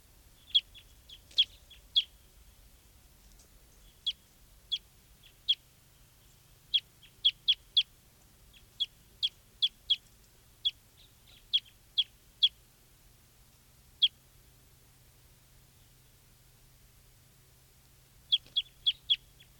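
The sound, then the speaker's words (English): A bird calls repeatedly with short, sharp, high chirps, coming in loose clusters with a brief pause near the end, over a faint low background rumble and no talking. “This is still 508 calling over here.”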